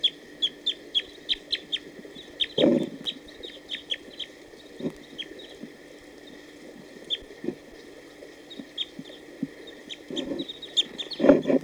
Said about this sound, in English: although there were some song phrases given by a wild bird just a few minutes ago. It was probably that wild male who just came down to bathe, and he's now hanging around here. Stop. So recording the wild bird?